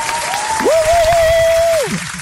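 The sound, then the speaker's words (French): An applause sound effect: dense, steady clapping of an applauding crowd fills the short stretch, with a sustained whistle-like tone gliding up, holding, then sliding down over it. “Ouais, j'aurais pu mettre un effet sonore. Une bonne main d'applaudissement.”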